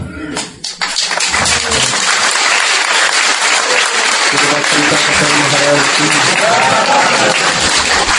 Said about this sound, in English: Clapping also.